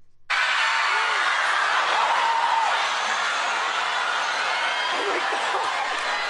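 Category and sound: crowd, crowd cheering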